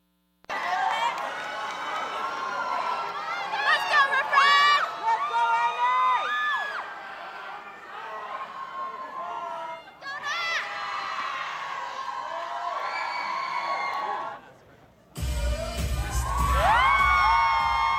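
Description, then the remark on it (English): A large audience of hundreds of Northwestern students cheers and screams continuously at the 8th Annual Refresh Spring Dance Show in Ryan Auditorium, many high voices whooping and shrieking in overlapping rising and falling calls, loud throughout, with a brief dip before an even fuller burst of cheering over a low thump. “Cheers were loud and energies high at the 8th Annual Refresh Spring Dance Show.”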